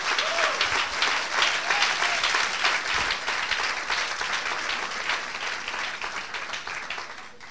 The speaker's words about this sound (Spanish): Si le va a dar el aplauso, dáselo, por favor.